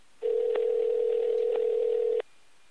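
A steady, loud electronic phone tone hums for about two seconds as Rick Thorne places a call to Tony Hawk, with faint clicks partway through before it cuts off abruptly.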